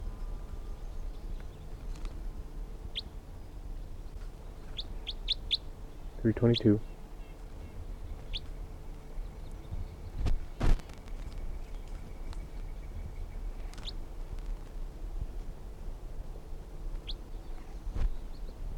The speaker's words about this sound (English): There are 15 birds in the net, and a lot of them, the rest of them are up in the trees calling,